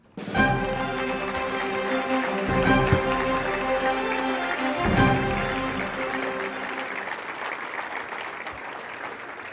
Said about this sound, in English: They're not quite here yet. You should continue applauding until they get up on the stage.